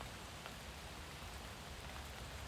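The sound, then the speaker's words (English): Steady rain falls in a continuous, even hiss with a soft patter of drops on a surface, unbroken for the whole stretch and with no voices. “Sometimes I think God sends the rain as an invitation to slow down from our hurried pace.”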